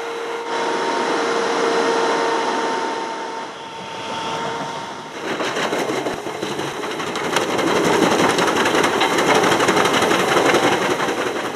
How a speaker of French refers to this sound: Alors on a effectivement devant nous deux camions. Le premier, c'est ce qui s'appelle la déchiqueteuse. C'est un camion qui transporte un broyeur mobile, équipé aussi d'une pince. Il a une grue d'une dizaine de mètres.